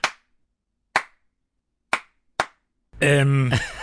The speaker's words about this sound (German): Ja, danke, ich weiß danke für den Applaus. Nicht was. Ja, danke schön für den Applaus.